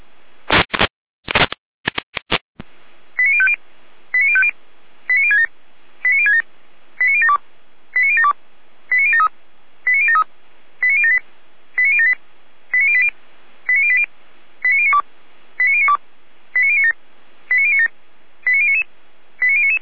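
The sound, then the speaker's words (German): Radio pager alert tones during a radio check of the pagers of the volunteer fire brigades of Saalfeld, Rudelstadt and Jena: a few harsh crackling bursts, then a long, even series of short electronic beeps at roughly one per second, each a quick run of mid-to-high tones, with no voices. “Funküberprüfung, Funkmeldeempfänger, freiwillige Feuerwehren, Saalfeld, Rudelstadt, Jena Ende mit Funkprobe.”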